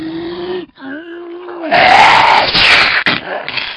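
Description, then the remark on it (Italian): A voice acts out the huge sneeze of the giant shark in Pinocchio: a drawn-out, rising vocal wind-up that breaks into a loud, breathy, hissing blast, then a brief trailing rush of air. “E già stavano lì lì per fare il gran salto e per gettarsi a nuoto nel mare, quando sul più bello il pesce cane starnutì.”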